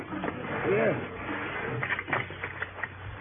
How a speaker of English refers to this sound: Yes, I will lock the door.